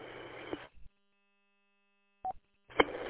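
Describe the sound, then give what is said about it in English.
Short electronic beeps from the Richmond radio repeater, four or five in a row after the mic is released, each wrapped in a burst of hissy static, separated by stretches of silence. No one speaks. “what's the beep, beep, beep, beep I hear on the Richmond repeater?”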